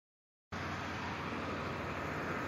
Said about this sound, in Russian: Я вот сейчас совсем рядом с этой стройкой. Тут какой-то... Ну, вы слышите, какой шум? Какие-то гигантские машины подвозят стройматериалы, куча работников. А я напомню сейчас, по времени... Получается, практически 9 часов.